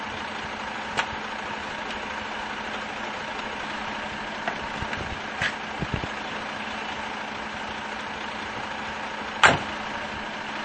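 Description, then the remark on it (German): A long-distance haulage truck's engine idles beside the speakers with a steady low rumble and constant hum, broken by a few sharp clicks and knocks, including a louder clank near the end. No one speaks. “Wir stehen hier neben seinem LKW.”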